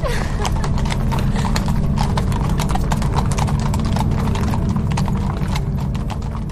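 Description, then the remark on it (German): Steady clip-clop of the hooves of a ridden horse carrying a man and a woman on a hard surface, a continuous brisk rhythm of many loud strikes with a faint whinny and no one speaking. “Der Mann, auf dessen Pferd sie saß, hatte kaum ein Wort mit ihr gesprochen.”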